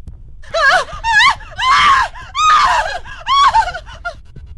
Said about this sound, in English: sexy or scary scream?